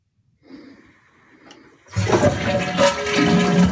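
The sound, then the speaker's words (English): A toilet flushes: a soft click and low gurgle, then a loud roaring rush of water that surges and keeps churning to the end, with no one speaking. “I have all the volumes up and you have to hear the toilet flushing sound because that's the only time that the whoo occurs.”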